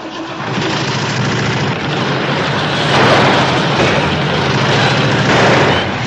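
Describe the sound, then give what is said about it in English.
An old car's engine cranks and catches, then keeps running with a loud, uneven, sputtering roar that swells after a few seconds, running rough until it warms up. “Runs a little rough until she warms up.”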